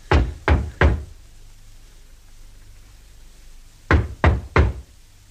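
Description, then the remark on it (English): Two sets of three firm knocks on a door, evenly spaced, with a long pause between the groups and a quiet low hum underneath. No one speaks. “There's no other door. There's no name. No, is there a bell? If there is, I don't see it.”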